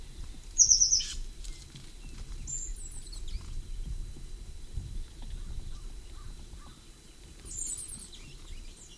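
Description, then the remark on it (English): A bird call of short, slightly melodic chirping notes in quick series, repeated three times with pauses between, over a low steady background rumble, from one of two birds that flew down to a cavity in an oak. No one speaks. “Second flew down with the slightly melodic notes. I believe the one that gave that call is the one that flew down second.”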